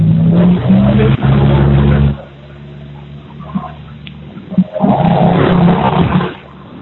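A truck rumbles past, its loud, droning engine roaring for a couple of seconds, dropping away, then surging up again before fading. No one speaks.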